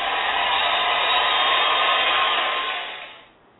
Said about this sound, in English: And the crowd is cheering. They're being lectured to.